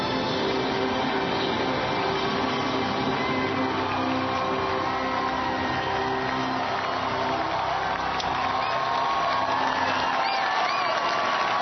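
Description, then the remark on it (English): A large crowd, many waving American flags, cheers and applauds continuously for the newly elected 44th president of the United States and vice president-elect Senator Joe Biden, a dense, steady roar of voices with scattered shouts and whoops rising above it, loud throughout. “American flags are being waved by many people in the crowd.”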